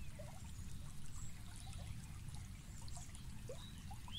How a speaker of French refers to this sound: Au milieu serpente un petit ruisseau dont l'eau est limpide et transparente. Vous vous approchez de ce ruisseau et vous asseyez sur sa berge, les pieds dans l'eau fraîche.